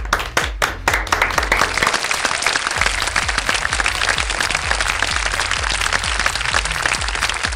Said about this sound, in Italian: Un bel applauso.